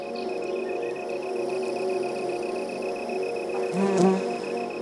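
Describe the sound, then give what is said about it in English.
A dense, steady drone of many bees buzzing inside a hive, recorded with a microphone stuck into the hive by producer Mark Rickers, continuous, with a brief louder swell near the end as one buzzes past. “By the way, we posted some pictures online, so if you want to see producer Mark Rickers valiantly sticking a microphone in a buzzing hive, you can find them at ttbook.org.”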